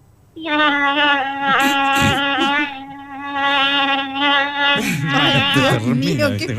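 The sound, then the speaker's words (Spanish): A voice imitates a buzzing mosquito with a sustained, nasal, high-pitched drone. It starts after a brief pause and holds steady for several seconds, wavering slightly, then breaks into warbling vocal sounds near the end. “¿Y el mosquito cómo es, el mosquito? A ver, ¿el mosquito cómo es? Es un poquito más agudo.”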